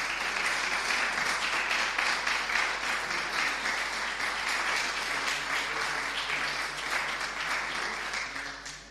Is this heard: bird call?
no